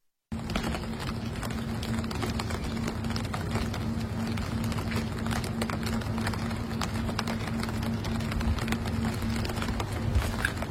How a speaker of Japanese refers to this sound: さあ、今の音ちょっと覚えておいていただいて、いよいよ今度は、サイレントアンブレラ、西村さんが今持っていらっしゃるこの傘の音、さあどれぐらい音が、消去されているのかお聞きいただきましょう。